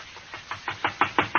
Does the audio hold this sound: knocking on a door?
yes